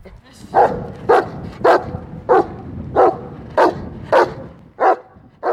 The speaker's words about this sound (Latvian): Un suns riedams skrien man klāt, jau gatavs pagrābt no rokām diktafonu, taču, lai cik kārdinājums būtu liels, tādas komandas nav bijis, un suns paziņo, ka svešais ir aizturēts.